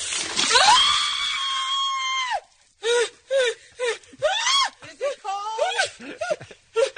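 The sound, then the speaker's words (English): Oprah lets out a long, loud, high-pitched scream as Gail King pours a bucket of ice water over her head, followed by a string of short, breathless gasping shrieks. “Gail King poured the bucket of ice water on Oprah's head, and listen to this.”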